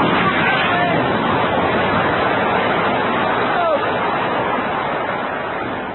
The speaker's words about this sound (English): Oh, blimey. What a lot of sea.